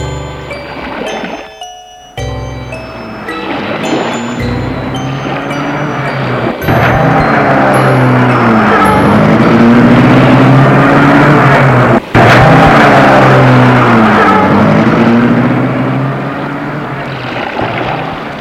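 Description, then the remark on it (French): A car drives people home, its engine a steady, loud hum that rises and falls in pitch as it accelerates, with a brief metallic jingle at the start and no voices. “Ils prennent la voiture pour rentrer.”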